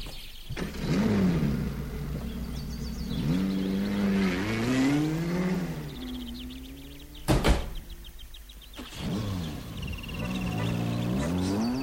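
A car engine revs up and accelerates, its pitch climbing and falling through several gear-like surges, with a sharp door-like thud partway through before the engine pulls away again. No one speaks.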